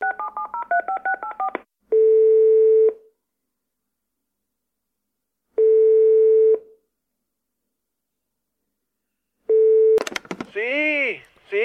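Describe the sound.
A rapid run of touch-tone dialing beeps as a mobile phone is called, followed by a steady ringback tone that sounds three times with long silent gaps, before a voice abruptly cuts in at the end.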